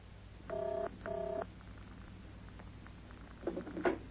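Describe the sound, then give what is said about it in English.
After a telephone number is dialed, a ringing tone is heard down the line, two short buzzing bursts in quick succession, followed by quiet hiss and a few clicks like a receiver being picked up. “Right, 7, 8, 5, 9, 1, 2, 1, I think.”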